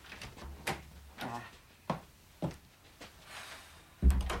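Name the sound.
door being opened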